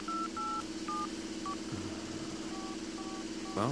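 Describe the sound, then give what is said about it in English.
A quick series of paired electronic keypad tones as a phone number is dialed on a cell phone, each beep short and crisp, over a steady low hum with a brief muffled rumble in the background. “We'll give the cell phone a shot, just for grins.”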